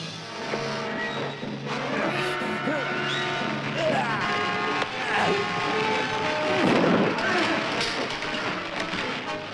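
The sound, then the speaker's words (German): A heavy explosion bursts out inside a burning spaceship around the middle of a chaotic, noisy scene, with booming rumbles and crackling debris mixed under tense voices and a sustained droning background. “Und da reden sie und dann schlagen sie sich und dann brennt's und dann explodiert irgendwas und dann war's das.”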